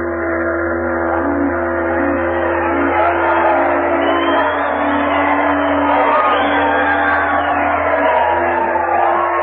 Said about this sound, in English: There was shouting and rejoicing. There was singing and laughter.